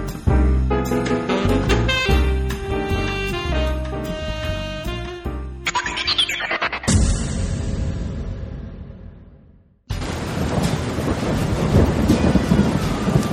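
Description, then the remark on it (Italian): A short burst of music gives way to a loud thunderclap that rumbles and fades, then heavy rain pours down steadily, a dense hiss with no voices. “Mannaggia come piove, in giro non c'è nessun concerto questa sera, neppure nei locali.”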